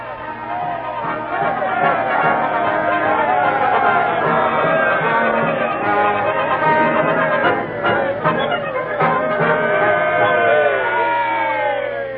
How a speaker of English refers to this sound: Standing up in front of the new building with the crowd cheering and the band playing.